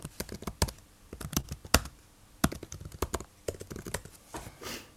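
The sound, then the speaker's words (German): Rapid, irregular clicking of keys on a computer keyboard as someone looks something up, fairly quiet, with short bursts and brief pauses over five seconds; no one speaks. “Ich schau mal nach, wenn du mir das Tippen vergibst.”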